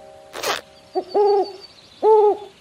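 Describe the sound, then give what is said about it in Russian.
An owl sitting in an old hat inside a tree hollow hoots twice, each call a clear, steady, slightly wavering note held briefly, with a short pause between them; a quick rustling burst comes just before the first hoot. “Нет, старую папину шляпу и в ней сова.”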